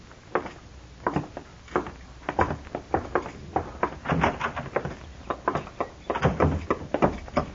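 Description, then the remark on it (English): A door opens and closes, with a quick run of clunks, rattles and thumps from the handle and frame, fairly loud and without any voices. “Door's right there.”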